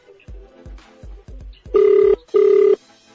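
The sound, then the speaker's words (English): A telephone ringback tone sounds twice, each ring a steady electronic buzz lasting under half a second, preceded by faint soft thumps and low background noise; no one speaks. “It's ringing.”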